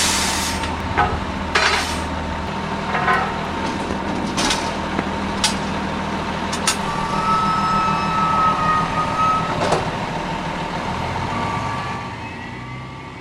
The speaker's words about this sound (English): After the ladder truck is positioned, a volunteer clips into a safety harness. He and another volunteer start making the first of several trips, taking tools and equipment up the fire truck ladder to the roof.